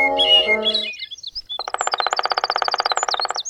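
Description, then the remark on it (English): A black-backed woodpecker calls, a few sharp harmonic notes followed after a brief pause by a fast, steady rattling series of clipped pulses lasting about two seconds. “It's a black-backed woodpecker.”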